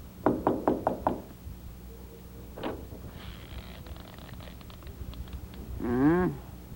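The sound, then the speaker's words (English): A quick run of five sharp knocks on a basement door, one more knock a moment later, then a scraping, creaking sound as the door opens and a short voice answers. “Knock.”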